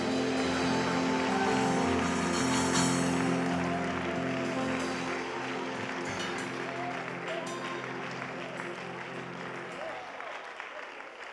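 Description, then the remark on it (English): An audience claps their hands to the Lord in steady, sustained applause, dense and loud, with a murmur of voices underneath that gradually tapers off toward the end. “The Lord, clap your hands to the Lord.”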